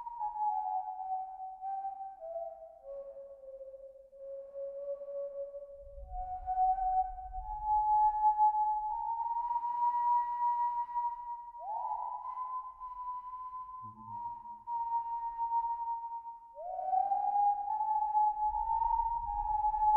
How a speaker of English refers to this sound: Chambers heard a most curious whistling coming from below in the town square.